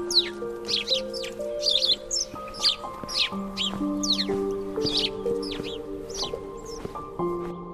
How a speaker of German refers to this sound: Aber die zwei fliegen schnell hoch auf einen Baum und beschweren sich mit lautem Zwitschern über die abendliche Störung.